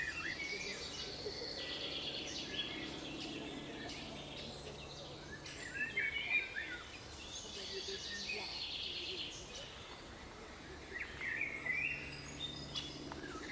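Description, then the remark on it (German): A dense chorus of many birds singing and chirping at once in harmony, overlapping calls with no alarm calls, over a steady background hum; no one speaks. “Das ist jetzt Harmoniestimmung, was wir hören. Wir hören viele Vögel, die singen.”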